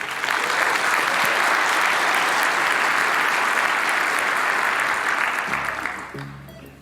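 A crowd claps steadily in a dense, loud burst of applause that holds for several seconds, then fades as a low hum and faint voice emerge at the end.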